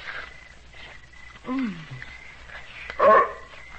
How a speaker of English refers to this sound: Huh? Hey, somebody's pooch. Hi, Mutt. Come here. Hey, he's a nice dog, huh?